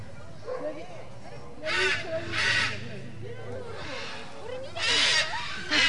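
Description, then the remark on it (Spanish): A brightly coloured pet parrot, frightened by a brass band at a street parade, lets out several harsh, raspy squawks in loud bursts, two close together and more a few seconds later, with murmuring voices and crowd noise underneath. “Es un loro. Se ha escuchado perfectamente.”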